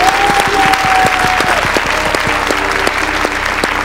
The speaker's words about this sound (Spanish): Un aplauso para...